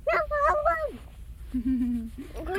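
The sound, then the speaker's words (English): A person imitates a dog barking, a few high, drawn-out yips followed by a lower, whiny woof, with a brief pause between them. “Are you barking?”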